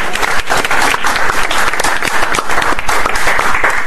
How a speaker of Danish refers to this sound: Vi klapper.